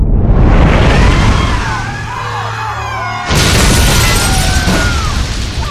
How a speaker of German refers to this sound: Und krachte mit solcher Wucht gegen die Lady Wexham, dass der Dampfer heftig in Schwanken geriet. Es dröhnte und splitterte.